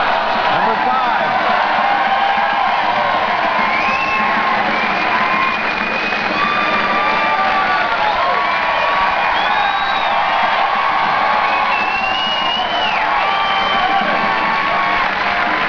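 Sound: audience cheering and whooping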